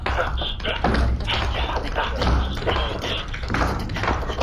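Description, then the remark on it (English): Rapid, rhythmic tap-dance shuffles, a 'shuffle off to Balthazar' step, crisp clicks and scuffs of shoes on a hard floor, steady and fairly loud for several seconds with a low background hum underneath. “Let's see a little shuffle off to Balthazar.”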